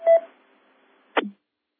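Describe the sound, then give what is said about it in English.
A single short DTMF touch-tone telephone dialing beep sounds clearly, followed about a second later by a brief, quick descending chirp, with quiet in between and no talking. “The next thing is they talk about auto patch, and you know, auto patch lets you make a phone call from the repeater.”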